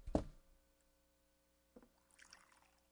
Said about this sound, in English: Yeah, and you know what? At least I think about the show where I want to hear the sound of water pouring.